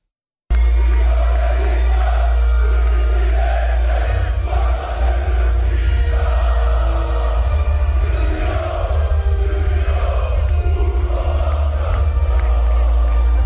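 A hostile basketball crowd at Skenderija chants insulting messages at Serbia and the Serbian people in unison during the Serbia vs Bosnia and Herzegovina basketball game, a loud, continuous mass of voices with rhythmic swells and a steady low rumble beneath, sustained throughout without a break.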